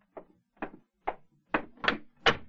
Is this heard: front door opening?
yes